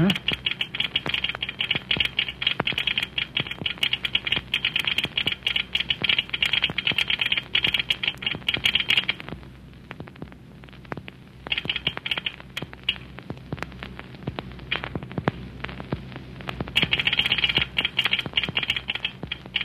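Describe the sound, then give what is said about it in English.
Rapid, irregular clicking of a telegraph key worked by a railway station agent, sharp taps in fast bursts that keep going for many seconds, with a brief lull partway through, over a low steady hum. “Yeah, we might do that when the agent fella gets through telegraphing.”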